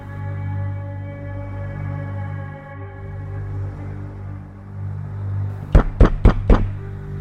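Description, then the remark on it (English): A low, steady droning hum fills the background, then four sharp, loud knocks by a courier land on Alistair's apartment door at 28 Baker Street in a quick, even rhythm near the end. “Echoed the sound on Alistair's apartment door, 28 Baker Street.”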